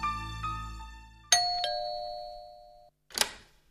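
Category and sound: household object, doorbell ding-dong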